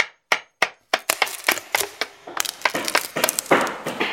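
Woodpeckers and tits hammering with their beaks at wood, breaking into a small house: a few sharp separate knocks at first, then a fast, irregular flurry of loud taps, cracks and splintering crunches with no voices.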